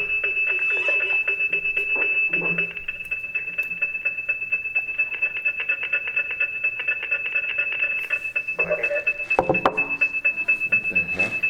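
A steady, high-pitched alarm rings continuously, loud and unbroken, with some muffled background noise and a brief clatter near the end.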